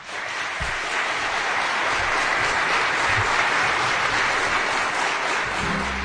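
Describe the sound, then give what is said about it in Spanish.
A crowd of people from Teruel applauds steadily for about six seconds as a tribute sent to Luis del Val, a dense, even wash of many hands clapping at a constant loud level with no voices over it. “Te mandan este beso y este aplauso muy fuerte.”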